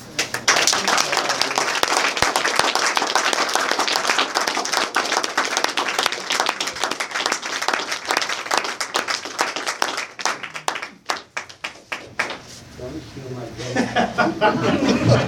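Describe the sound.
An audience of Alcoholics Anonymous members breaks into a long round of applause for a speaker, dense and steady clapping mixed with chuckles, thinning out near the end into scattered claps before voices take over.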